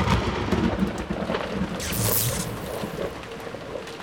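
A sharp thunder crack bursts out midway through a steady wash of heavy rain, the storm noise rolling continuously and fairly loud, with no voices.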